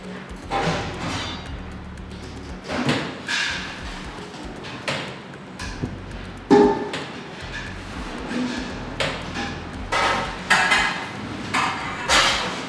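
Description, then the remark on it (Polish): Clatter in the kitchen of the prison in Racibórz, where inmates work under the supervision of cooks: repeated sharp metallic clanks and bangs of pots and dishes at irregular intervals over a steady background hum, loud. “Znajdujemy się na kuchni zakładu karnego w Raciborzu i tutaj pracują pod dozorem kucharzy, ludzi wykwalifikowanych, pracują osadzeni, którzy spełniają takie normy, że mogą tu pracować.”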